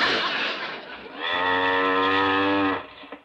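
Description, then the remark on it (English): A cow lets out one long, loud moo, steady and drawn out for over a second, preceded by a brief rush of breathy noise, with no talking. “Where can that cow be?”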